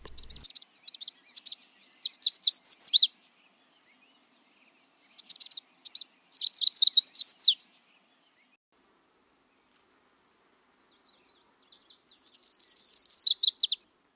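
A yellow warbler, also called summer warbler, a tiny all-yellow bird with orangish or reddish stripes down its sides, sings three bright, high-pitched phrases of quick sweet notes ending in a rapid flourish, separated by pauses, clear with no other sounds.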